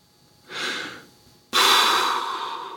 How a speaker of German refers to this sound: Schnaufte der Bühnenbildner.